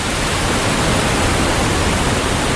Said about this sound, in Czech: Potomac je velká, ale místy také velmi dravá řeka. Jsme přibližně 30 kilometrů od centra Washingtonu. Tady jsou velké vodopády Potomacu.